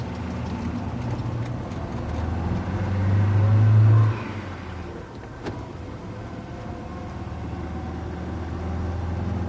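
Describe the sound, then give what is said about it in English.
A car engine revs up to a loud, rising roar for a few seconds, then settles into a steady low rumble as the vehicle pulls away and keeps driving. “Get in this car”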